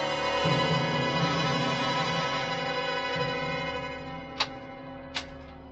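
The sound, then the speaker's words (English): A clock that has just started running again ticks twice near the end as its second hand moves, two crisp, evenly spaced clicks standing out over a loud, steady mechanical hum that fills the whole clip. No one speaks. “The second hand's moving.”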